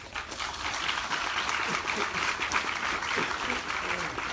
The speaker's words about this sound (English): I stated a fact, but I also stated many other facts, and I only heard clapping for very few of those times, so I'm just saying.